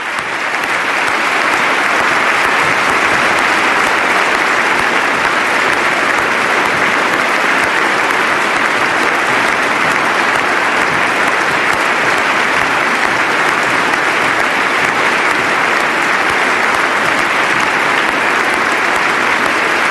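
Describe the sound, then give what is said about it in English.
Prolonged applause from members of the House and Senate and other dignitaries fills the chamber during the President's State of the Union address, honoring a veteran of the war in Afghanistan injured by a roadside bomb. It is a dense, steady roar of many hands clapping at even loudness for the full twenty seconds, with no voices standing out. “By far the most prolonged applause of this State of the Union address.”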